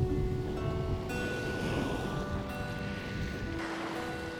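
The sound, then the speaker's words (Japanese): Steady, continuous wash of summer sea waves with a low rumbling roar, threaded with a faint humming tone like an engine; no one speaks. A few people are swimming in the sea. “海の風景もすっかり変わっちゃって、あっという間に今は夏の海です。”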